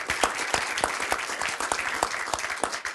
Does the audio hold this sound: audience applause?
yes